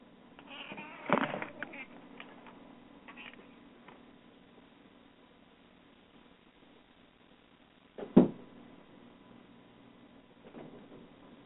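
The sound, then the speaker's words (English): A cat meows for attention a couple of times, one short call early and a sharper, louder one later, with quiet room tone and faint shuffling between. “My cat wanted to get in the way because it wanted attention, but it's gone.”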